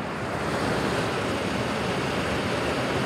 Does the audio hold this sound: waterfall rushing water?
yes